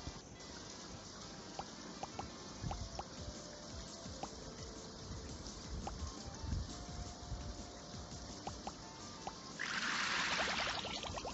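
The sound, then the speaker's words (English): Water trickles steadily in a thin stream with small splashy drips, ending in a brighter, louder gush of pouring near the end. “You are missing 7. Drops. You are missing 6 drops.”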